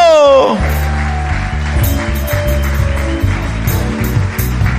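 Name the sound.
audience applauding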